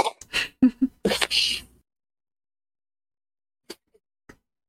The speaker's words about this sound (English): Oh, I'm going to blow my nose.